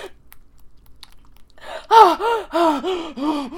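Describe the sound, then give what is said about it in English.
A woman gasps and moans during orgasm in a loud, rhythmic run of five or six voiced cries, each rising and falling in pitch. A quiet stretch comes first, and no words are spoken. “I gasp and moan.”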